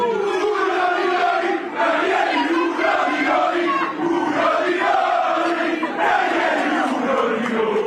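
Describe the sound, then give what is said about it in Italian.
A dense crowd of AS Roma football fans cheers and chants loudly and continuously for Claudio Ranieri as he is escorted through them, voices blending into a roaring, rhythmic swell with rising and falling shouts, no single speaker audible. “È esploso l'affetto dei tifosi della Roma nei confronti di Claudio Ranieri, che come vedete non riesce quasi a camminare, è scortato.”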